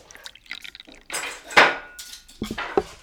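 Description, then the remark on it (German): Plates and cutlery clatter and clink together in a few bright bursts as the dishes and cutlery are fetched to set the table, with a loud metallic rattle in the middle and more clinking near the end. No voices. “Ich hole das Geschirr und das Besteck.”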